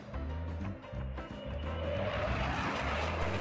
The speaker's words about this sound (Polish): Kolejny spektakularny przelot na pokazach lotniczych.